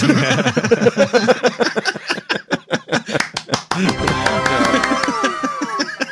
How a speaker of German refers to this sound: Man klatscht nicht für sich selber.